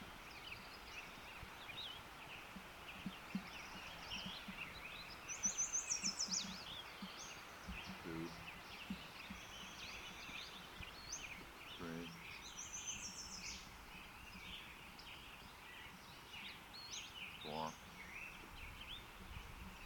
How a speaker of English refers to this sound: Western Flycatcher number 7.